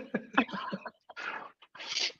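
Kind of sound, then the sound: human body sound, sneeze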